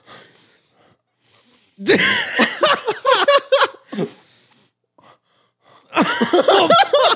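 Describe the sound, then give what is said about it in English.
A sudden, forceful sneeze after snorting pepper bursts out, followed by breathy, laugh-like gasps and sputtering. After a short pause, another loud fit of sneezing and gasping follows. “It does make you sneeze.”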